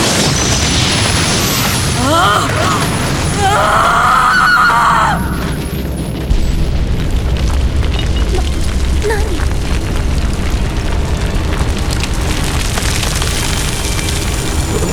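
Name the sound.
earthquake rumbling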